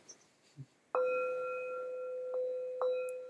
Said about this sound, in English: I'll ring a bell for myself.